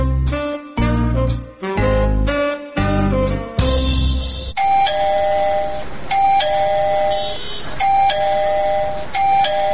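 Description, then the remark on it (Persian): A gate doorbell rings over and over: a run of loud, punchy chime bursts, then a repeating electronic melody of bright tones that cycles roughly every two seconds, with no one talking. “زنه چی شده که باز دروازه را زنگ زده؟”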